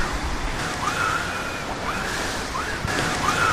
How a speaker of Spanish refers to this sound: Son las sopladoras con las que los operarios de la limpieza viaria están recogiendo las miles de hojas que estos días están cayendo en las aceras. Son cerca de 2.300 empleados los que están recogiendo las hojas de lunes a domingo hasta el 19 de enero